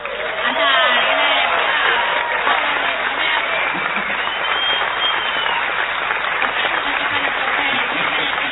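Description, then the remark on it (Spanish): An audience gives a sustained, loud ovation for the artist formerly known as someone, a dense wash of clapping that holds steady throughout, with scattered voices and cheers rising through it. “Peor todavía va a ser la ovación para el artista antes llamado ….”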